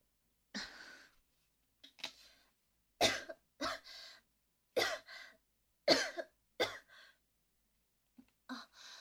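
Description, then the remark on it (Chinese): A fitful bout of sputtering coughs, about eight sharp bursts in irregular clusters with short pauses, from someone who choked while drinking water too quickly, spilling a couple of drops. No one speaks. “没事没事，居然因为咳嗽漏了两滴出来。”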